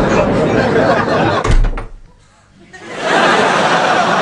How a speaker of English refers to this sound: Because you just opened and then shut the door. This time, try actually going in the pub.